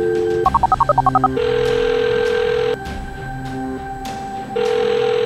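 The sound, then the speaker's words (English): A quick burst of dialing beeps, then a steady ringback tone sounds twice with a pause between, clear. No one speaks. The phone is calling the speaker's mother by voice command. “Let me just call my mom real quick. Phone, call mom.”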